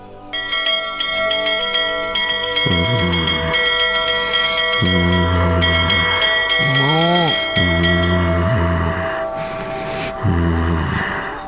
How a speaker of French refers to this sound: Pour vous dévoiler la réponse à cette question, je vais utiliser de vieilles cloches celtiques transmises de père en fils et achetées hier à Monoprix.